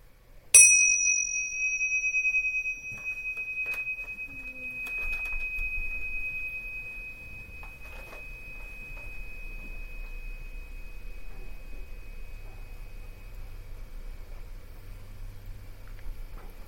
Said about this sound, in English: So we'll start with the bell and let the bell just focus you.